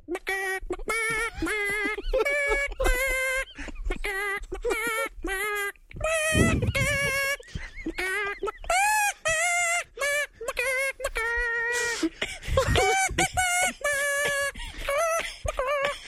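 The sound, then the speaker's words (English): A person sings the tune of Happy Birthday entirely in clucking chicken noises, a steady run of short, pitched bawk-like syllables, fairly loud, with a brief noisy burst midway. “I can also sing songs as a chicken.”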